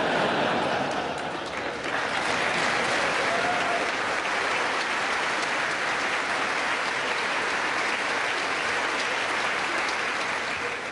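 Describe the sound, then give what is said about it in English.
Sustained, dense applause from members of the United States Congress and guests, a loud steady wash of many hands clapping that holds evenly for the full stretch without fading. “I never get such nice applause from the Japanese Diet.”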